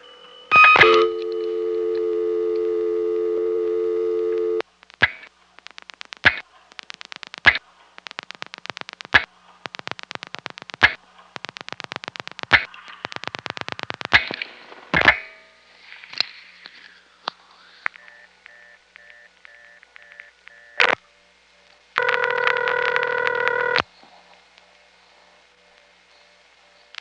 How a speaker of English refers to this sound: I'm just going to stay silent, and after the operator hangs up, I'll use the silent line as an opportunity to put some coins into the box and get the sounds of this classic Bell System three-slot coin phone on tape.